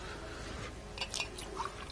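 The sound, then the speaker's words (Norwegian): A speaker drinks water, with soft wet swallowing and lip sounds, a few quiet gulps over a low background hum, no talking. “Men vi skal over på Guds ord, og jeg har noe på hjertet å gi deg i dag, og vi skal få opp tema her mens jeg tar litt vann.”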